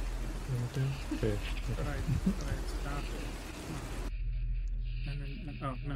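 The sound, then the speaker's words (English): Steady hissing rain plays under talking voices, then abruptly cuts out partway through, leaving only muffled, quieter sound behind. “The rain is gone.”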